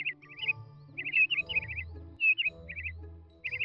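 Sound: birds chirping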